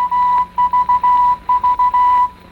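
morse code

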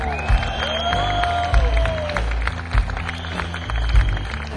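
audience applause and cheering

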